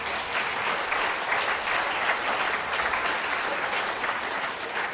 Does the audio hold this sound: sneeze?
no